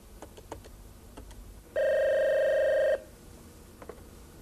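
A telephone rings once as a call goes through: a steady, loud electronic tone lasting about a second, preceded by a few faint clicks, with no one talking.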